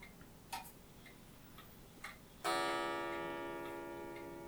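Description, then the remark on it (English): A clock ticks softly a few times, then a loud, bright chime strikes once and rings out, slowly fading. “That's not Dimitri, that's the clock.”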